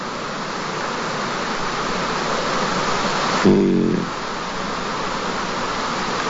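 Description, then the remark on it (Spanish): Steady, dense rain hiss with a soft rush of wind runs evenly throughout, broken only by a short voiced sound midway before the downpour continues unchanged. “Bueno, ahí está la brisa, la lluvia.”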